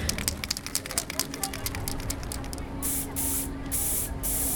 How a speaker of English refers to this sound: I wanted to try a different medium, so like spray paint.